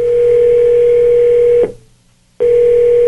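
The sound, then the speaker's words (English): A telephone ringing tone as the producer of the Joe and Alex Show on Radio Now 100.9 dials a listener for a live on-air call: a steady, loud, mid-pitched buzz holds for about a second and a half, cuts off into brief silence, then starts again. No voices. “All right, shh, phone's ringing.”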